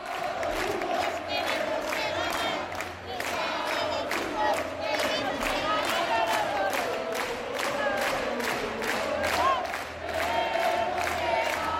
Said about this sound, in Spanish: Quiero recordar, por cierto, lo que gritaba el público en Fuenlabrada nada más acabar vuestro partido contra el Breogán.